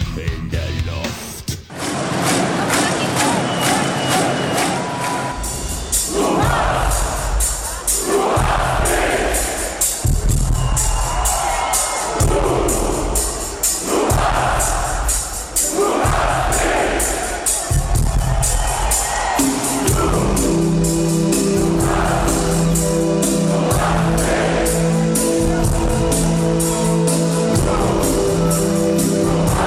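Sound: crowd cheering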